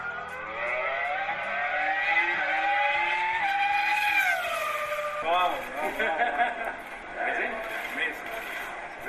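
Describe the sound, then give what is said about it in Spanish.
The Formula 1 car in which Fernando Alonso won the world championship, driven by him for five laps in Abu Dhabi, screams loudly, its high whine climbing steadily in pitch, then drops abruptly and revs again in a rougher, choppier burst as the car shifts and keeps accelerating. “se ha subido Alonso hoy al coche con el que fue campeón del mundo.”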